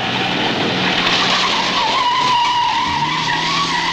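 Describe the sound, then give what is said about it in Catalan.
A car flees from the police at full speed, its tyres screeching in a long, loud squeal that wavers above a dense engine roar, continuous for the whole stretch. “Atracaments amb arma blanca, cotxes robats i fugides de la policia a tota velocitat.”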